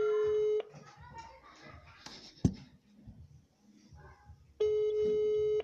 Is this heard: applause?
no